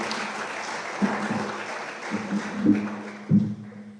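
A crowd applauds steadily for several seconds, a dense wash of clapping with a few louder individual claps standing out, tapering slightly toward the end.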